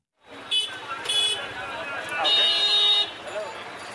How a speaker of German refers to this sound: Simapuri gilt als eines der ärmsten Viertel von Neu-Delhi. Dichter Verkehr schiebt sich über holprige Straßen.